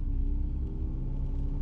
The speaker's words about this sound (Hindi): मैंने चुपचाप गुस्से में तमतमाता हुआ घर की ओर गाड़ी लेके निकल पड़ा।